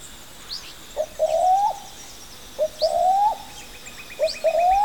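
A brown cuckoo dove calls three times at a steady pace in a rainforest, each call a short note followed by a longer rising whoop, clear, while other birds chirp faintly in the background.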